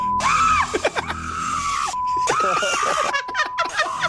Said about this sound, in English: Yes. That was from the girl's phone. No, that wasn't you, was it? I called her and she emailed it to me from her phone. Oh, my God. And so we're playing this with the guy on the line. Wow. And I was like, this is you? This is a guy screaming?